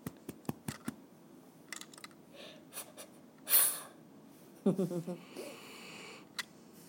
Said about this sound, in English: I love the big sniff.